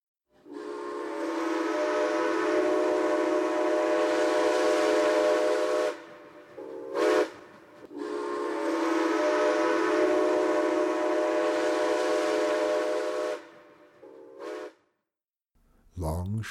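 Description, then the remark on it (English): A steam train whistle from locomotive number 11 sounds loudly in a long-short pattern, screaming into the wind at nearly 11 o'clock at night: two sustained shrill blasts each followed by a brief toot, with a faint low engine rumble underneath as it creeps along the line from Moingona to Boone checking the track for washouts. No talking. “It was nearly 11 o'clock when Kate heard number 11's whistle.”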